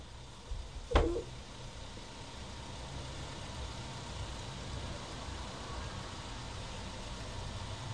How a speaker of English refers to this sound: Car coming. Is there a car coming? Yeah. What colour is it? Green. Green?